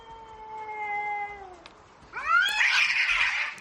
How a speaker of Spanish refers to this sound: Mira, dos gatos peleándose es tremendo. Es que tú imagínate.